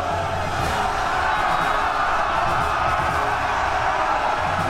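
A dense, continuous roar of many men yelling and screaming together as an army charges to attack, loud and sustained throughout, with no individual words standing out.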